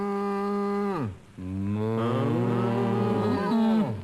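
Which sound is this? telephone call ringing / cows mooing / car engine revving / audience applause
cows mooing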